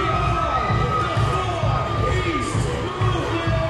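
A loud crowd at a club in the agricultural town of Bakersfield, California, cheers and shouts continuously over a pounding, steady low bass beat, voices blending into a dense roar with occasional higher yells.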